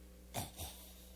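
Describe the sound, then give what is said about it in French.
A dog gives two quick, breathy snorts about a quarter second apart, soft, with a faint whimpering edge, over a quiet low hum. “well, the dog.”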